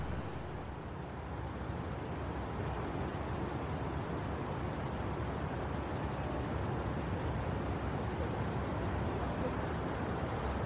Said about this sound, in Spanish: De fondo se pueden escuchar los coches, el rumor de la ciudad, ¿verdad?